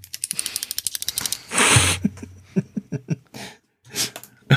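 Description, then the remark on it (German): Coins rattle and clink in a quick irregular flurry of sharp metallic clicks, with a brief scraping jingle partway through and a few scattered clinks at the end. No one speaks. “So, jetzt fange ich an, mit Münzen zu klappern.”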